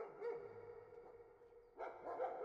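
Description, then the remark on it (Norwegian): A police tracking dog barks in short, sharp bursts, one near the start and a louder cluster toward the end, clear with no voices. “Videre står det at betjenten føler seg sikker på at hunden fulgte et spor etter et menneske, men at det ikke med sikkerhet kan slås fast at det var spor etter Bjørnar.”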